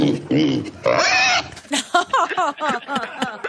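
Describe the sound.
A pig grunts and squeals in a few loud bursts, then a person starts talking as the animal noises stop.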